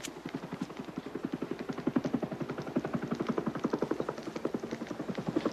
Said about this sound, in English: Somewhere over there. A chopper appears through the smoke. There it is.